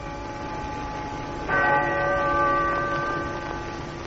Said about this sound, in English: The bells of the bombed Cathedral of Coventry, striking 2 on the afternoon of this Christmas day, sound the greetings of Britain to the world. I am speaking from the ruins of Coventry Cathedral.